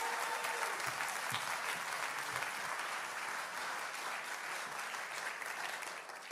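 Steady audience applause for a speaker being introduced, a dense wash of many hands clapping at a constant loud level for several seconds, tapering slightly at the end, with no voices standing out.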